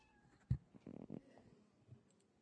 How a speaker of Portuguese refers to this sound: Áudio, ó. Quando clicado, ele vai tocar um som. Tem som aqui, um miau do gatinho, ó.